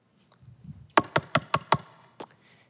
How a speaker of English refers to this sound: Go away. Click. Shuts the door.